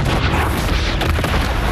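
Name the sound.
large explosion boom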